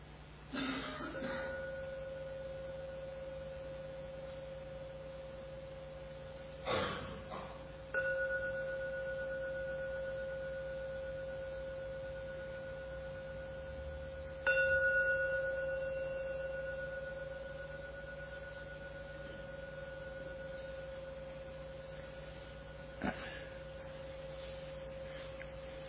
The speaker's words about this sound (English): Ring the gong 3 times. Please listen to every ringing of the gong. And only after the 3rd ringing starts to vanish, only then open your eyes to end the meditation.